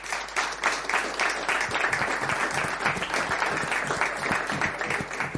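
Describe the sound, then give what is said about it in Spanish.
An audience applauds steadily for several seconds as a new guest is called onto the stage, a dense wash of many hands clapping at an even, fairly loud level, with no one speaking over it. “Un aplauso para él.”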